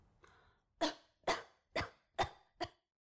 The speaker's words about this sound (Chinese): 咳嗽